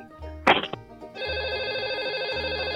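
A sharp click gives way to a telephone ringing before an answering machine picks up, a steady electronic trilling tone that carries on without pause, fairly loud, with no voices.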